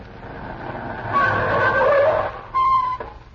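A car engine rumbles as tires squeal in a long, rising skid, ending with a sharp final screech as the chauffeur-driven car comes to a halt.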